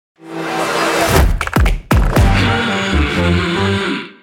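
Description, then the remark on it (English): A short brand audio logo opens with a wash of crowd noise sampled from the audience at Mumbrella 360, hits a few deep booming thumps that sweep downward, then settles into a bright sustained musical chord. No one talks. “So what you may not have realized was the first sound that you hear is actually crowd sound from Mumbrella 360.”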